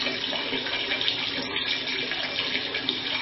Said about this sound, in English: Long, never-ending pee, this.